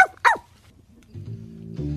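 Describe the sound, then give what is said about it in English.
Two quick, high-pitched yaps from a small dog ring out, followed by quiet and then a low, steady musical drone fading in underneath. “Let's just say a little doggie named Asta told me.”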